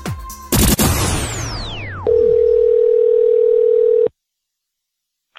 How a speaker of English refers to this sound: The phone is ringing.